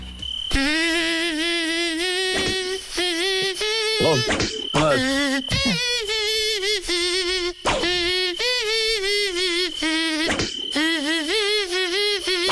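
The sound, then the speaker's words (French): A song's melody rendered entirely as whining, mosquito-like buzzing for a song-guessing game on Nostalgie radio, loud, with the buzz gliding between notes in phrases separated by brief gaps, and no voices. “Vous retrouvez leur chanson ce matin et c'est gagné.”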